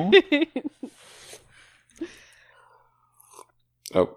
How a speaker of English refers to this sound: Excuse me, I'm going to need to sip my tea now.